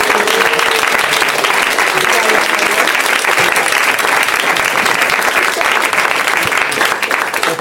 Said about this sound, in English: I think we should give him a big round of applause.